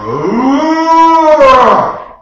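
A single long cow moo on a farm in northern Wisconsin, loud, rising then slowly falling in pitch over about two seconds with a rough, breathy end; no talking.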